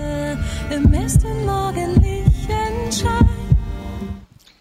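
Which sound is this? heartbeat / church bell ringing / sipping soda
heartbeat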